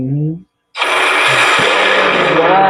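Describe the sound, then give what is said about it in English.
A brief voice, a short silence, then a lightning strike hits the sea with a sudden loud crack and keeps roaring and hissing as a harsh, broad wash of noise until the end, with rain falling hard. “So imagine the tremendous amount of heat that comes from that strike.”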